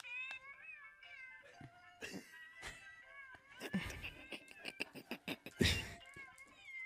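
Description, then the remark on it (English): A tinny musical birthday greeting card, started by pressing it, plays a tune made of cat meows, the pitched yowls following a melody in quick succession, with some louder bursts near the end. “Or have I taught these cats to sing for nothing?”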